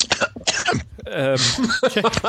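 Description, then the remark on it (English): A few harsh coughs in quick succession, rough and throaty like clearing the throat, followed by a drawn-out voiced sound and some brief vocal noises. “that was a cough of the evil memory of that film.”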